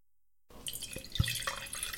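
Wine pours into a glass after a brief silence, a bright liquid trickle with a few small drips and clinks, fairly quiet and with no talking.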